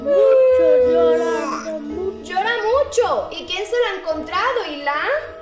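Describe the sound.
A person mimics a baby's cry with a long, wavering wail followed by several shorter sobbing bursts, loud, with no other sounds around it.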